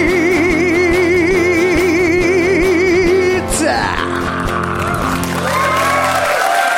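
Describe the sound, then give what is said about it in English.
An audience applauds loudly and steadily for about seven seconds, with cheering and whooping voices rising over the clapping before it cuts off. “Applaud that.”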